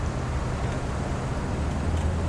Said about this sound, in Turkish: arabayı kullanırken yanında bir minibüs de yarış yapıyor.